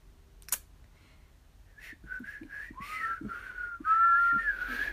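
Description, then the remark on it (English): A person who cannot whistle tries to, producing several short, breathy tones that grow into longer wavering notes with a rising slide. A sharp click comes just before, with faint tapping underneath. “I can't whistle, so.”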